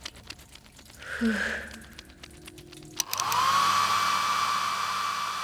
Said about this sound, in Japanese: 終わったらドライヤー貸して。 もう終わりだからいいよ。